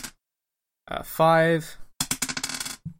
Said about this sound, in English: All right. Roll it. I'm just making sure I got the right dice here. Yeah. 2d8.